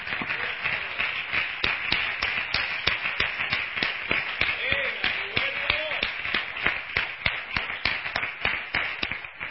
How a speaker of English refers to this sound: We want to give Him glory. We want to give Him praise. Why don't we give the Lord a round of applause?